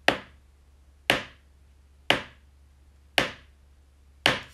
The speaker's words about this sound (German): Das Gespenst erschreckt dann die Leute. Dazu klopfe ich mit dem Kochlöffel gegen eine Oberfläche.